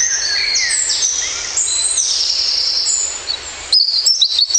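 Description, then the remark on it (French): Several garden birds chirp and sing at once in a dense, overlapping chorus of high, bright trills and tweets, steady, with a few sharper chirps near the end. “Apprenez à reconnaître les oiseaux dans votre jardin, dans un parc public ou tout simplement depuis votre balcon.”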